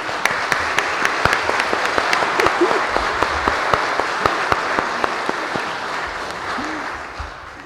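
An audience gives a round of applause, a dense, steady clatter of many hands clapping for several seconds before gradually thinning out and fading at the end.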